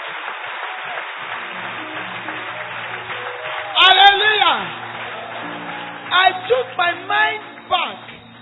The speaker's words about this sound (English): And I discovered that because you are clapping, you are saying, Satan, shame on you. Because only the joyful heart can say to Satan, shame.